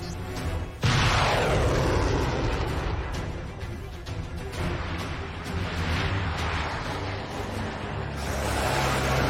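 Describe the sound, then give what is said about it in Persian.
A sudden loud blast erupts, then a sustained roaring rumble carries on for several seconds, like a missile launching and exploding, with no voices. The Americans firing a missile. “آمریکایی‌ها موشک و شلیک کردن.”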